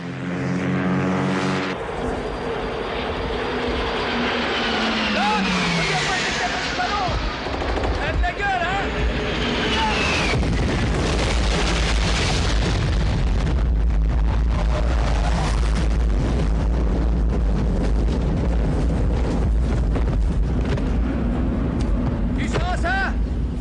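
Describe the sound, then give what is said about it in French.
Roaring jet aircraft sweep overhead with rising and falling whines as they drop napalm, then heavy explosions swell into a deep, sustained rumble, with bursts of gunfire and voices mixed into the loud din. “Les jets arrivent. Ils vont larguer d'ici 30 secondes.”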